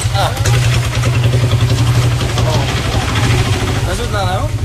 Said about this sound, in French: On est en train de mettre le village sans dessus dessous en déplaçant les uns les autres parce que c'est des toutes petites ruelles, toutes étroites. Et on est à 15 sur cette moto. On va s'enliser.